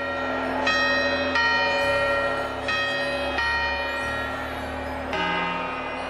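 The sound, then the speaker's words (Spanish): Church bells ring out in a steady series of resonant strikes, each tone overlapping the long hum of the previous one, fairly loud with no voices present. “Y con las campanadas de fondo”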